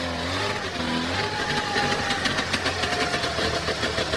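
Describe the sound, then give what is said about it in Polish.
A convertible car's engine drones steadily while driving, a continuous rumble with a slight rise in pitch and rushing wind noise throughout, with no voices. “Fajnie się jedzie.”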